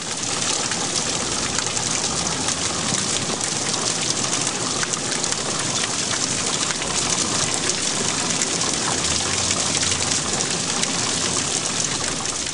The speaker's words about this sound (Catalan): De sota van aparèixer uns núvols negres com el carbó i va començar a ploure.